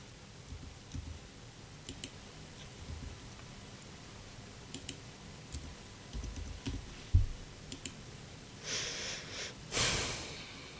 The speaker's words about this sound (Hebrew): תכף אני אפתח קלפים, תכף אני פותחת קלפים ואני אתן מסר.